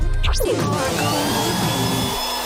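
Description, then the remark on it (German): A steady, loud whooshing blast of a hair dryer as someone's hair is being blow-dried, with a brief clatter at the start and a constant motor whine under the airflow. “Ihr hört ein Föhngeräusch.”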